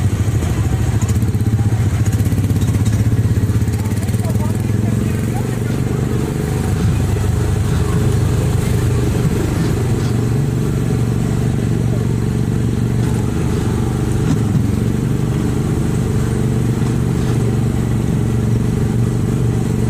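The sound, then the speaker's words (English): A car engine runs steadily from start to finish, a loud, low, continuous rumble with a faint rattle on top, like being inside a moving vehicle. “All right, let's put our seatbelt on.”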